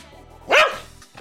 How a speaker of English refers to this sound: Any final words before liftoff, or just one really enthusiastic bark for the fans?